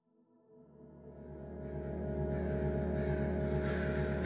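A dense chorus of crows cawing in a tree, the harsh calls blending into a thick, continuous wash that grows steadily louder over a few seconds, with no voices.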